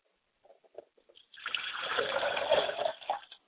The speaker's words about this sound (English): We pour libations to him today, and we say Ashe.